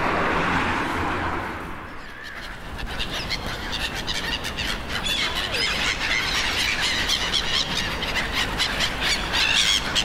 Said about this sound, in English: So I'm down on the River Soar. There's a lot of swans and gulls and pigeons. People throw bread and seeds at the bridges.